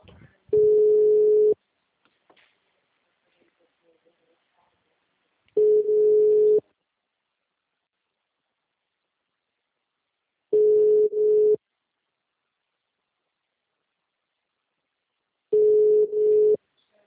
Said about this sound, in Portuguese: Chama agora. Agora tá chamando.